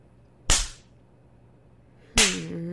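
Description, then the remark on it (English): Two loud, sharp cracks of a leather strap striking, spaced well apart, each snapping hard and fading quickly; a short, pitched vocal moan rises right after the second lash. “Did my strap feel too good?”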